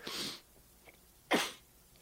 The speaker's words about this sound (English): Oh, sorry, I just had to clear my throat and caught a whole oyster of just snot. Ooh, that thing could have had a pearl in it, boy.